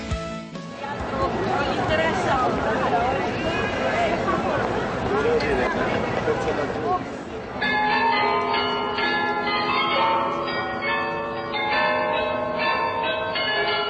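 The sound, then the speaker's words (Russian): The 43 carillon bells of different sizes on the Munich town hall tower, the Glockenspiel, ring out, many tuned bells striking in a running melody with long overlapping ringing tones, while a crowd murmurs beneath; the first half is busier, crowded street noise. “Вы слышите перезвон 43 колоколов различных размеров от мала до велика на башне Мюнхенской ратуши.”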